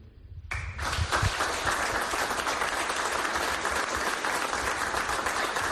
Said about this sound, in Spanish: El aplauso de la curia, de los sacerdotes, de todos los que estaban en la diócesis de Orense para escuchar las palabras del obispo de Orense, Monseñor Leonardo Lemos.